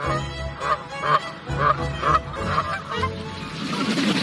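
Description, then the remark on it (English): A flock of geese honks repeatedly in uneven bursts, several calls overlapping, with a steady rush of wind or background noise underneath. “I watched some geese not so much tack through as tackle the wind a few days ago.”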